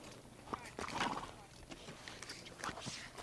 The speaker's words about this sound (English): I'm surrounded by horses now.